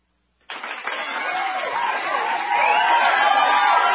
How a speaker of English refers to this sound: So do we have some applause for this measure?